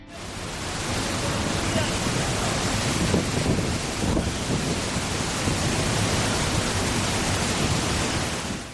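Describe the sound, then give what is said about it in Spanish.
A powerful, continuous roar of rushing water pouring from the spillway of the Alcorlo reservoir dam, discharging 56 cubic metres per second, dense, steady and loud across the whole recording, with no voices. “Sí, así suena la tromba de agua que está vertiendo el pantano de Alcorlo a 56 metros cúbicos por segundo”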